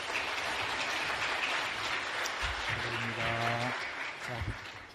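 A church audience applauds to welcome a deaconess being honoured with flowers, with dense, steady clapping that holds at an even loudness for the whole five seconds, while a voice speaks briefly underneath partway through.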